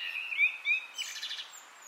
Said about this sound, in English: who lives in Dublin, sent us birdsong from his garden.